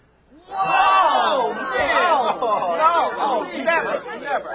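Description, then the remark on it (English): A crowd breaks into a loud, overlapping murmur of many voices reacting at once to the announcement in a random drawing that College Park, Maryland was eliminated, sustained for several seconds with shifting chatter and a few raised exclamations. “I will never understand crowds.”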